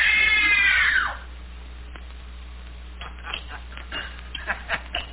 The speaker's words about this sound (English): It was only a simple scream test, just to see how well Anne can follow direction.